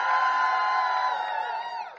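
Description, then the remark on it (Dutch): A large audience shouts and cheers loudly in one sustained roar when asked to make itself heard, many voices blending into a dense wall of yelling that holds steady for a couple of seconds before easing slightly. “Eindelijk mocht je een keer schreeuwen, hè?”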